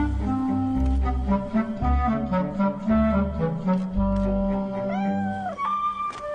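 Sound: cat meowing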